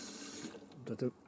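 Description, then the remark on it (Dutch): Water runs from a tap as water is fetched at an allotment garden complex in Kampen, a steady hiss for about half a second, then fades as a voice briefly speaks. “Dan halen we hier water.”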